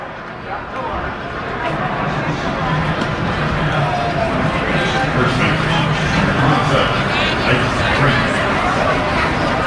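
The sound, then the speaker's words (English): A steady, dense murmur of a large baseball stadium crowd in Indy, during the second inning, voices blending into a continuous low hubbub with no cheering or sharp peaks. “Now this Indy crowd that was roaring pretty good in the first inning has quieted down considerably.”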